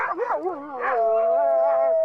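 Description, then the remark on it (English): Several huskies howl together in long, wavering, overlapping cries, with a few short yips at the start, fairly loud with no talking. “There was a lot of little signals he kept on trying to send out as an opposition politician, such as going to work on a bicycle, being photographed with huskies in the Arctic.”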